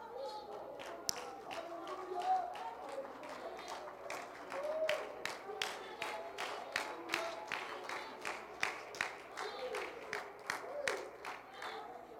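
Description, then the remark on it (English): A church audience claps together in praise of God in a steady, even rhythm, sharp handclaps repeating roughly twice a second for the whole stretch over a low murmur of crowd voices. “A little hand clap or whatever.”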